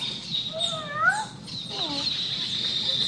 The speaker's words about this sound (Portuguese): Olha o gatinho lá.